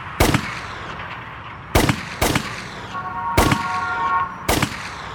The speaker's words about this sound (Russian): В вытянутой руке он держал короткий тупорылый пистолет. «Нет», – тихо сказал Джон. «Не сейчас. Нет». «Да», – ответил ему Марк Чепмен и сделал 5 выстрелов в спину.